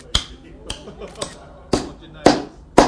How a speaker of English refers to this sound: Could you put this nail in that hole? Give it a push. And let's line it up underneath. Right. There we go. And now can you hit it with a hammer?